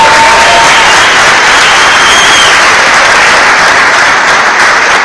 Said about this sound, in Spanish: Yo quiero pedir un fuerte aplauso para sus diamantes, por la invitación.